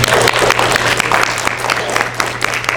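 A crowd claps in a dense, steady round of applause for a speaker who helped edit the authors' book, many hands blending into a continuous patter that stays loud throughout with a low hum underneath.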